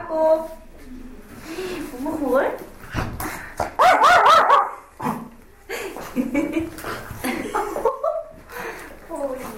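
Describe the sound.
A dog barks and whimpers in short excited bursts, with a loud cluster of yelps in the middle, while people talk and chuckle softly in the background.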